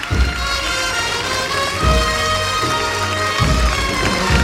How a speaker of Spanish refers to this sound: Y los aplausos.